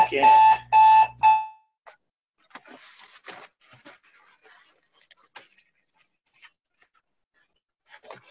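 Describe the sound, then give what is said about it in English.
An alarm goes off in three loud, rapid electronic bursts right at the start, then stops, leaving quiet rustling and handling noises amid near silence. “So, listeners, that's how you know it's live, because the alarm's going off.”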